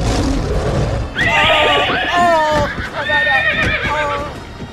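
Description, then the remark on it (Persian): A horse lets out two long, loud whinnies, high-pitched and quavering, over a noisy rush of hoofbeats pounding along at a gallop. “اسب چنان میدود که هادی که در بالای سر من به پرواز در آمده بود از ما عقب افتاد.”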